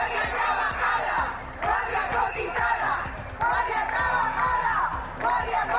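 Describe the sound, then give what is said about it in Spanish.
A large crowd of strike marchers in Cantabria, Spain, chants in loud, rhythmic unison, shouting their demands in repeated bursts with a steady cadence, the massed voices swelling and dipping with each phrase, on a midday march from Hospital Valdecilla to the Government Delegation that blocks city-centre traffic. “Así sonaban sus reivindicaciones.”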